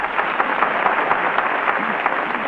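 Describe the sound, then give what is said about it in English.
A studio audience on the Town Hall radio program applauds steadily for Harry Von Zell as an applause machine measures their approval, a dense wash of many hands clapping at an even, sustained loudness with no voices over it. “The applause machine shows that Harry Von Zell wins your approval and a 45-second engagement on the town hall program.”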